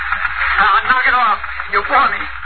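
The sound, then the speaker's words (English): A low, steady carrier hum runs through an open radio channel as Regan's radio still answers, thin and band-limited, with faint garbled voice-like chatter drifting over it for a couple of seconds. “His radio still answered. I can hear the carrier hum.”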